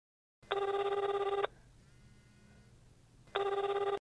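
A telephone rings twice, each ring a loud electronic trill lasting about a second, separated by a quiet pause with faint background hiss.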